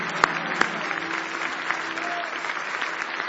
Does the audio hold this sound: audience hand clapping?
yes